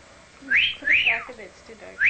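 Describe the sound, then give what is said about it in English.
A pet starling whistles a short tune of three bright, rising-and-falling notes, with a faint murmur of lower sound between the notes. “Kudo loved singing and could whistle many tunes, including the William Tell Overture and Pop Goes the Weasel.”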